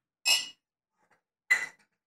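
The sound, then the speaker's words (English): Two bright, ringing clinks of glasses touching in a toast, spaced a little over a second apart, each with a short shimmering decay and quiet in between. “Don't not cheers me, sir.”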